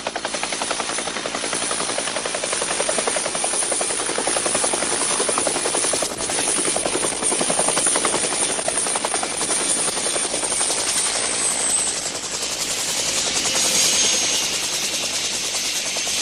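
A helicopter engine, after a small engine adjustment and reported ready for a mission, runs steadily with a dense, rapid rotor chop over a broad whining roar. It holds loud and even throughout, with a slight shift in tone near the end.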